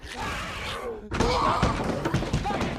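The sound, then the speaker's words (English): An apartment door slams shut once as Angela closes it on Walensky, a loud bang about a second in, with voices and busy movement continuing before and after it. “Angela closes the door on Walensky.”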